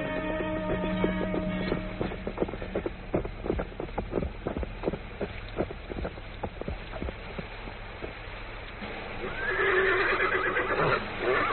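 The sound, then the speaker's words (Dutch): Steady hooves of horses being ridden clop along in a quick, regular rhythm for several seconds, then a horse lets out a loud, shrill whinny near the end. “Laten we toch doorrijden. De paarden zijn dood, of, monsieur?”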